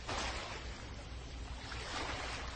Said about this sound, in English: Okay, that's the ocean.